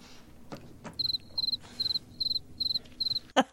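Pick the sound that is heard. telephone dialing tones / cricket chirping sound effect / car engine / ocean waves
cricket chirping sound effect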